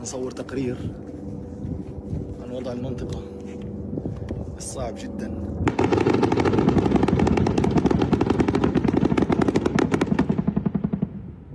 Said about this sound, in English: The Israeli army has continued to intensify its attacks on northern Gaza, and Gaza City in particular. On September 27th, journalist Saleh al-Jafarawi documented Israeli helicopter gunships and drone artillery firing heavily in the north.